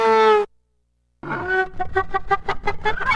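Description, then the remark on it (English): A violin bow drawn across an acoustic guitar imitates a donkey's bray: a loud, strained tonal note, a brief silence, then a series of rhythmic, rasping heehaw pulses, played alone. “All of these animal noises are made by using a violin bow against an acoustic guitar. Donkey.”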